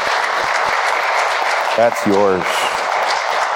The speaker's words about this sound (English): You can go ahead and applaud.